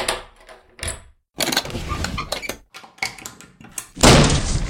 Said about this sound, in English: No sense in locking the door if you can kick it in.